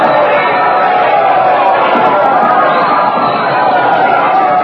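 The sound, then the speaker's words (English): A large crowd roars and cheers in a loud, continuous ovation, a dense wash of many voices holding steady throughout with no pauses, as Queen Elizabeth comes out on the castle balcony with the Lord of the Castle and her Secretary of State, Lord Walsingham. “The crowd has seen her. They're cheering. Listen to that ovation.”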